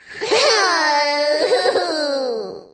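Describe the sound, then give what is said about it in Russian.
A little girl cries in one long, loud wail lasting a couple of seconds, her voice wavering in pitch with a sobbing break midway before trailing off. No one talks over it. “Что за вой? Что за рев?”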